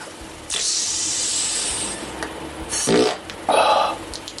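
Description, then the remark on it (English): A queef sound, an airy hiss that swells and holds, followed by two short puffing bursts of air, with no voices. “Perhaps you'd want to give me a quick lick every time I queef.”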